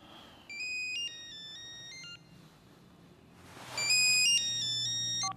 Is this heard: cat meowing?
no